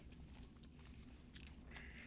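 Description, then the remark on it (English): Wet crunching of someone biting into a juicy brown pear and chewing, with crisp bursts of crunch over a steady low rumble, no talking. “Let's not chew into the mic.”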